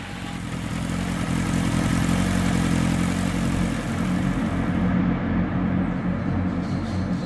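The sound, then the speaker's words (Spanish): A motorcycle engine drones steadily and loudly for several seconds, a thick low rumble with a rough, constant texture and no voices over it. “Pasados unos minutos, un hombre en una moto vendría a recogerlas.”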